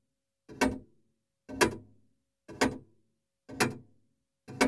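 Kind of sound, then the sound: household object, clock ticking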